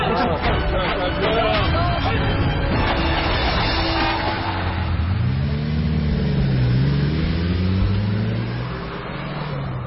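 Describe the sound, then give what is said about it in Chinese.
A crowd of voices chatters as students board, then a vehicle engine rumbles, revving and rising in pitch as it pulls away and drives off under the lingering babble. “现在你们跟着我走，来，大家都上车。”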